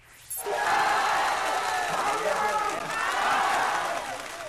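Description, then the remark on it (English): A loud street protest crowd of tens of thousands in Thailand, gathered outside the home of the king's top advisor calling for his resignation: a dense, continuous roar of many voices shouting together. It kicks in abruptly after a brief quiet instant and stays steady to the end. “This is what it sounds like on the streets of Thailand today.”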